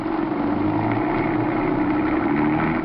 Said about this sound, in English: Start this car. Keep on going, and don't look back.